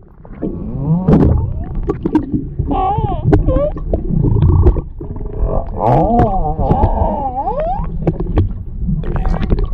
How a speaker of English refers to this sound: How about this guy actually saw whales, had an underwater camera that was able to lower into the water and caught humpback whales vocalizing. To me, this is really cool.